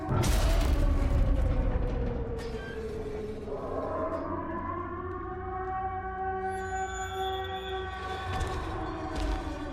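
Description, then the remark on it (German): A siren wails with slowly rising and falling tones, loud, over a rough rumbling background of traffic or machinery that is heaviest at the start. “Sirene, ich hab verstanden.”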